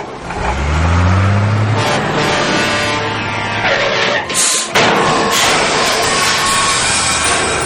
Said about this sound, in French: Le camion poubelle est prêt pour aller vider toutes les poubelles de la ville. Allons-y les enfants, suivons-le.